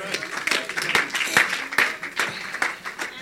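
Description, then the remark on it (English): A crowd applauds for the Lord Jesus, many hands clapping in a dense, continuous patter with a few sharper claps standing out, loud and sustained throughout. “Clap for the Lord Jesus.”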